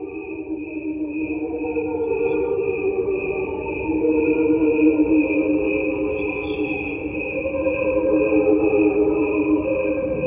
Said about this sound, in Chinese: 你而家听到嘅系蟋蟀嘅叫声，喺呢一度有两段录音同时播放，一段系以正常嘅速度播放，另外一段我哋就将佢嘅速度放慢，因为蟋蟀嘅生命周期比人类嘅寿命短，我哋就将佢嘅声音速度放慢到同人类嘅寿命比例一样。